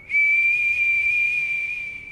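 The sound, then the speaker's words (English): A person whistles one shrill, high, steady note for about two seconds, imitating the piercing whistle of tornado wind forced through the walls of a house. It is loud, with no talking. “In the middle of the freight train sound, there was a shrill whistle. Whistle of the air going through the walls themselves.”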